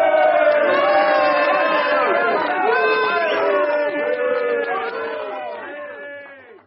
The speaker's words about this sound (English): Who was booing? Only the bloody trots. Just sour grapes, that's all.